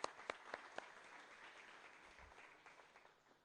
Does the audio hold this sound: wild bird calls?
no